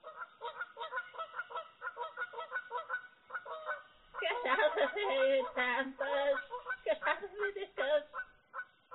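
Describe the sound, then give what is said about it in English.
A bird honks in a rapid series of harsh, repeated calls, swelling into a louder, more frantic burst of overlapping honks midway before settling back into shorter bursts. “Get out of here, you damn bird.”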